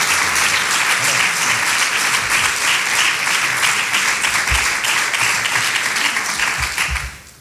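A large audience applauds steadily for David Toscano, president of the Diputación Provincial de Huelva, a dense wash of many hands clapping at once that holds strong for several seconds before tapering off quickly at the end.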